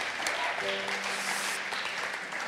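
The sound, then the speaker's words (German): An audience applauds for God, a steady, dense wash of many hands clapping at an even, fairly loud level throughout, with a few faint tonal notes briefly sounding beneath the clapping. “Lass uns Gott für das einen Applaus geben.”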